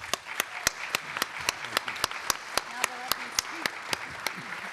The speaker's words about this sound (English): All right, now all of you have been holding off on applauding. Please absolutely do.